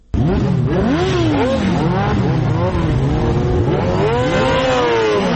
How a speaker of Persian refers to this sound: این صدای اگزاز موتورسیکل های عاشقان سرعت در ولایت هرات است. گروهی از موتورسیکل سواران سنگین وزن با سرعت بیش از 200 کیلومتر در ساعت شارهای هرات را در روزهای تمرین می پیمایند.